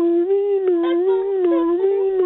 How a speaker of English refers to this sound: Okay, can we have very, very, very, very quietly in the background, can we have an ambulance passing by, please?